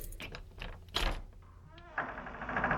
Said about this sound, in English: Who's knocking? It's locked! Now go away!